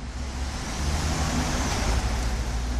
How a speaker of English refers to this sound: At this truck stop in northern Wisconsin, several dozen semis prepare to head out on the open road.